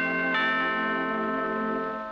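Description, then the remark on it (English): The Avon doorbell chime used in Avon's advertising rings out clearly: a bright initial tone, then a second chime with rich, sustained harmonic ringing that slowly decays. No voices; the bell is fairly loud. “The Avon doorbell was an inviting sound, and it captured the essence of Avon, which was a door-to-door sales strategy.”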